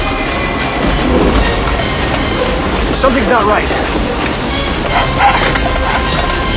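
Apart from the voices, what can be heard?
train rolling on rails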